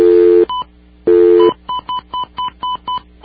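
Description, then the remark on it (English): Two brief bursts of dial tone give way to a quick, evenly spaced run of about eight touch-tone telephone keypad beeps as a phone number is punched in to make a phone call, loud with no talking. “let's make our next phone call.”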